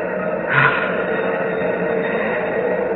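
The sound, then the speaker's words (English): A steady, dense rocket-engine roar of nearly 1,000,000 pounds of thrust, ripping Pegasus 4 loose from Earth's gravity, fills the whole stretch, broad and rumbling with a muffled, band-limited quality, swelling briefly with a louder burst early on before holding even. “Hear those rocket engines? Yes. Nearly 1,000,000 pounds of thrust.”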